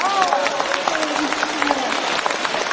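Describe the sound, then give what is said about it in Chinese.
A crowd claps steadily for about three seconds, a dense, even crackle of many hands at a constant loudness, with a faint voice faintly audible underneath near the start. “开饭店杀活鱼，鼓掌。”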